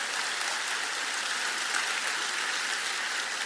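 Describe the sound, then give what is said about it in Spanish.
A church audience claps to praise the Lord in a dense, steady wash of applause that holds at an even, fairly loud level throughout, with no voices breaking through. “Diga amén y alaba al Señor con un aplauso, porque Él es grande.”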